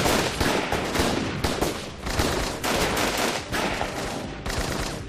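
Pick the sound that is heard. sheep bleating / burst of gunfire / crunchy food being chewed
burst of gunfire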